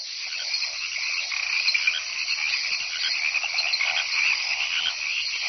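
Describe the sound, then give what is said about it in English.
A dense chorus of frogs croaking and trilling continuously, many overlapping calls forming a steady, fairly loud wall of sound with no voices present. “But with more females arriving all the time, it's not over until the fat frog stops singing.”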